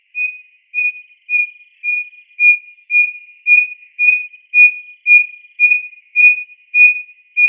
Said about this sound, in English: Instead of these beautiful, complex, warbly songs that most wren have, it also has a hoot song, we call it, and it starts off like a little owl, and it just gets louder and louder and louder.